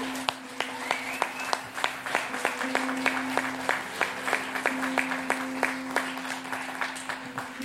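An audience applauds in a large room: many hands clapping together at a steady, moderately loud level for several seconds, with a faint sustained low tone humming underneath.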